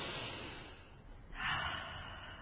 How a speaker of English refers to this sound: The first thing I'd like us to do now that we're here together, to take a big breath and then let it out slow. And maybe do it again.